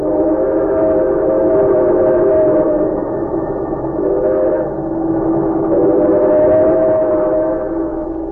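A fast express train, heard in its parlor car, runs steadily, a loud continuous rumble with a droning hum that swells slightly and dips at moments, with no voices over it.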